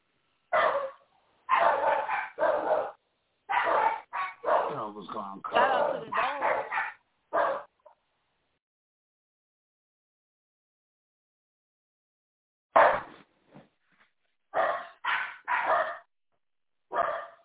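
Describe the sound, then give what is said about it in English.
A dog barks repeatedly in quick, loud bursts, some with whiny yipping tones, then goes quiet for several seconds before a few more sharp barks. “Yeah, we're gonna put the dog in there.”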